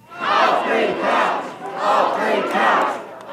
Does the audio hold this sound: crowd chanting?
yes